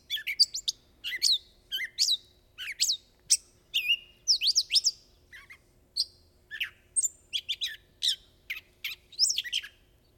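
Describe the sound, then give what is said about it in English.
A gray catbird sings its summer song: a long, chatty run of varied squeaky chirps, whistles and mews, phrases rapid and irregular, clear against a quiet background with no talking. “the first is the gray catbird, and here's let's play that song”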